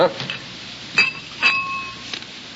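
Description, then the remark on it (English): Glasses clink together several times in quick succession as sherry is served at dinner, each bright chime leaving a short ringing tone that fades before the next tap, moderately loud. “How about a glass of sherry for dinner?”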